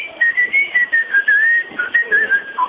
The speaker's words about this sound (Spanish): No, cuando usted la pierde, usted chifla y la llave suena también.